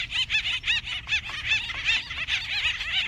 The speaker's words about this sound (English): Up to 30 birds engage in the battle at one time in a frenzied display of wings, loud cries, and physical attacks that can result in injury or even death.